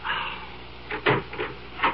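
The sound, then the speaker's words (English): A door is opened against its chain, a few short wooden clunks and a metallic rattle in quick succession, moderately loud, with no voices. “Open the door, Scotty, it's Harry.”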